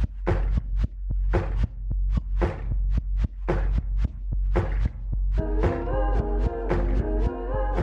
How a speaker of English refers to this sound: And it starts with this beat that sounds like it's made from vinyl warps and sounds of like banging on tables.